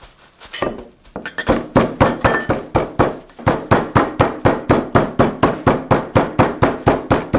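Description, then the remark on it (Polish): Eggs being beaten in a bowl: a fast, steady run of clinking strokes against the bowl, starting unevenly and then settling into a brisk, even rhythm, with no talking. “Rozbijaj się te jojka i wiesz, i bułkę, i rozbijaj.”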